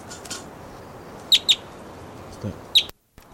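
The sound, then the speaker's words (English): A wild bird perched in a tree next to a truck gives three short, sharp chirps, two close together and one a moment later, clear over a steady low background hum. “And it's just out of range for shooting, but it's vocalizing here.”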